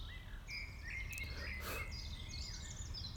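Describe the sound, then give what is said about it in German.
Many birds sing and chirp over a steady low outdoor rumble, their thin, high calls overlapping throughout, with a brief brighter rustle midway. Recorded on a Friday evening around 7:30 in the Königsforst forest, with many mosquitoes around. “Diesmal sind um mich herum ganz viele Mücken, aber auch ganz viele Vögel, die ihren Gesang in den Abend hinein vortragen.”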